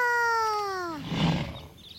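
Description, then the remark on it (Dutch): A real lion, viewed from a car stopped near it, gives a loud, drawn-out roar with a strong tonal growl that slides downward, then breaks into a rough, breathy rumble that fades away. No talking. “De leeuw kan wel heel hard brullen.”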